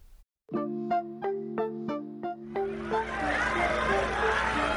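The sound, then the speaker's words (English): A crowd at a Sunday-night rally in South Carolina, with a presidential candidate on stage before the American flag: a steady wash of many voices and cheering swells up and fills the second half, following a short run of sustained musical tones struck in a regular pulse. “is on stage in front of a crowd in South Carolina.”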